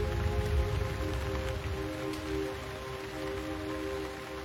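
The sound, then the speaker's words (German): Steady rain patters softly on the leaves of trees and on blades of grass on a hill, a continuous gentle hiss with faint droplet ticks, with a soft low ambient hum underneath. No voices. “kehre nun zurück zu der kleinen Überdachung auf dem Hügel, wo der Regen auf die Blätter der Bäume fällt und die Tropfen sich an die Grashalme klammern.”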